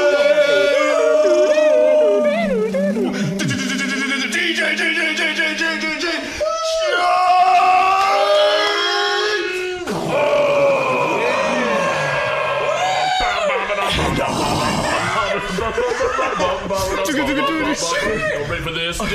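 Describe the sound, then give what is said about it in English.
Several voices loudly imitate a cheering crowd, with overlapping yells, howls and whoops that rise and fall without pause. The voices sound energetic throughout. “I'll be the crowd.”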